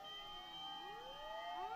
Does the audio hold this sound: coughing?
no